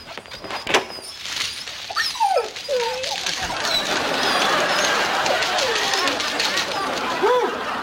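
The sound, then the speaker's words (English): Several dogs whimper and yip in high, wavering cries that rise and fall, over a steady background of noisy chatter and commotion. “We'll put the fear into those dogs.”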